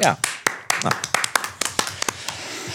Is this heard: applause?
yes